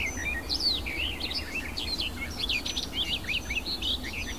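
A songbird sings a rapid, varied stream of warbling phrases, with mimicked blackbird-like snippets woven in, carrying on without pause over a low background rumble.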